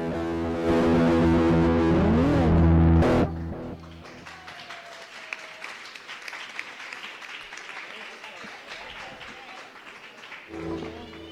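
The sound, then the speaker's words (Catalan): A burst of loud, distorted music with a swooping tone gives way to several seconds of steady audience applause, a dense crackling clatter of clapping, before the music briefly returns. “Bueno, espero que no siguin forçats, els aplaudiments.”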